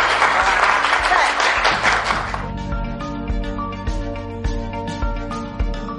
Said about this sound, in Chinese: 大家都今日系咪都得益良多？俾多次掌声，试过啦！